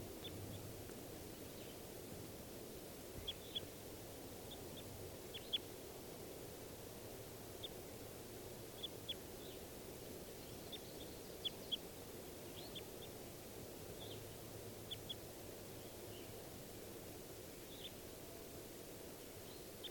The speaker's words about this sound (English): And I think this is the female at the top of the tree that's calling. Stop. Start recording those wild birds again.